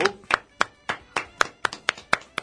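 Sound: clapping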